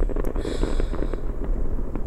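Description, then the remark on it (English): Fireworks at a fireworks show crackle and pop continuously over a dense, rumbling low end, with sharp bursts scattered throughout; fairly loud and steady, with no voices. “Are the fireworks scaring you?”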